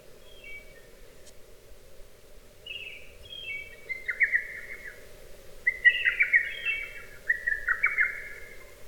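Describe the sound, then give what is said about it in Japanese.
A lesser cuckoo, a summer visitor to Japan arriving around May, calls in several quick, sharp whistled phrases, repeating every second or so over a steady background hum, fairly clear with no talking. “ホトトギスは夏鳥です。5月ごろに日本に渡ってきてよく鳴きます。”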